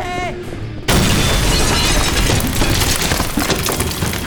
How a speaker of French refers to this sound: Ah, une bombe! Une bombe! Quoi? Il faut partir d'ici! Il y a une bombe dans les toilettes! Ça va péter!